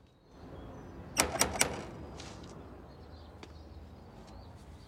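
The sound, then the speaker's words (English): Three quick, evenly spaced knocks on the door of a house ring out sharply over a low, steady background hum, followed by a few faint clicks and rustles. “Later, he walks up to a house and knocks on the door.”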